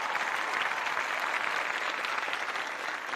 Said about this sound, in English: because the audience is going to go out of control here with their applause.